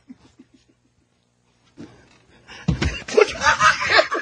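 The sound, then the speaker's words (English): A few faint taps, then a sudden clattering crash as a chair collapses beneath a seated person moving around in it, quickly swallowed by a loud burst of crowd laughter that carries on to the end. “I've had my chair collapse out from under me.”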